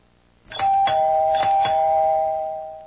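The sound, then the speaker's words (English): A doorbell rings at a door in a recorded listening-exercise dialogue, with a loud, steady electronic tone that holds for over two seconds, marked by a few sharp clicking strikes near the start, with no voices. “Will you answer the door”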